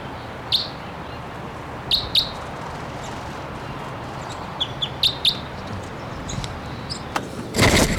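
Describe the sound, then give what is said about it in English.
A wild male crossbill gives a string of short, sharp, high-pitched calls in scattered bursts, some doubled, over a steady background hiss, with a louder rustling burst right at the end. “One of the birds is here screaming.”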